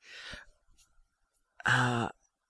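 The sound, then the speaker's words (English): Someone blows their nose: a short, breathy, hissing blast, a brief pause, then a louder, honking, tonal burst lasting about half a second. No speech. “What is that noise? What is that? I'm sorry, I'm blowing my nose.”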